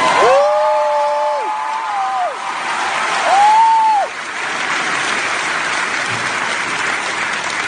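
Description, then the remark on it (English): Loud, steady applause from a large crowd fills the whole stretch, while Prince Harry, the Duke of Sussex, holds two long sung notes from Hamilton over it near the start before the clapping carries on alone. “Anyway, Prince Harry sings from Hamilton for a crowd.”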